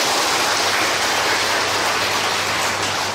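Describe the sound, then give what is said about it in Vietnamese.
An audience at a Buddhist teaching gives a round of applause in praise of merit, a dense, sustained round, with many hands blending into a steady, even wash of clapping that holds for a few seconds without any voices. “Xin cho một tràng pháo tay tán thán công đức.”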